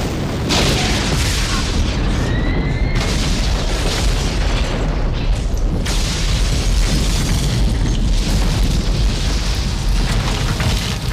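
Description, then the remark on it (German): A cargo freighter at an orbital dock explodes massively and keeps rumbling, with repeated booming bursts and a roaring, crackling blast filling the whole stretch loudly. “Der Frachter ist explodiert. Einfach so.”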